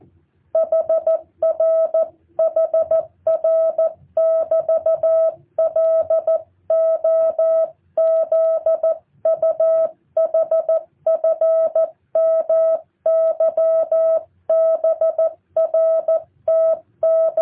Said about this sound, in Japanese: 飛行機の音も入って、臨場感あふれるモールズですけどね。